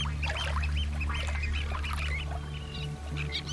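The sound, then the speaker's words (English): A little tern, having just caught a sand eel, squeaks with the fish in its beak in rapid, high-pitched bursts, chirping repeatedly over a steady low rumble of background noise. No one speaks. “Had a little tern go right in beside me and pull out a little sand eel, and it's still managing to squeak with its food in its beak.”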